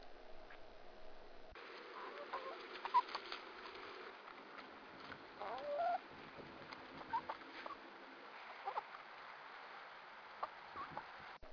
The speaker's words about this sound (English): The hens tend to be fairly quiet. They kind of talk amongst themselves while they're out and about eating bugs and things like that. And I'll stop here for just a second and throw in a few seconds of sound clips of the chickens just eating.